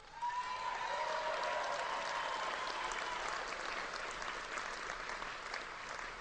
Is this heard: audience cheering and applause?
yes